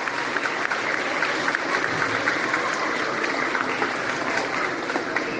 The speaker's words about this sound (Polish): Wielkie brawa.